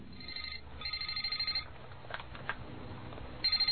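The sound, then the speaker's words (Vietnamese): A telephone rings with a rapid trilling bell, two bursts separated by a short pause, the second cut off at the end. The ringing is fairly loud and clear, with no one speaking. “Tập phụ lục những chuyện vãng sanh lưu xá lợi của chúng tôi vừa hoàn thành chờ gửi đến nhà in, thì chúng tôi được anh Huỳnh Hưởng Vinh gọi điện thoại cho biết.”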